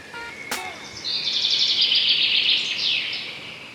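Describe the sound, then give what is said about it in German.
Birds chirp and twitter continuously in the open air, a bright, busy chorus with a sharp click near the start, no voices present. “da kann das vielleicht auch noch eine kleine Unterstützung sein, nämlich rauszugehen, tief durchzuatmen und ein bisschen Vogelgezwitscher zu hören.”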